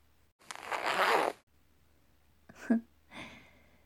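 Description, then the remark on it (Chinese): A boot zipper is pulled down in one long, raspy sweep, followed by two shorter, quieter zipping rasps a moment later. No one speaks. “好了，小帅哥，来，帮我把靴子拉链拉下来。”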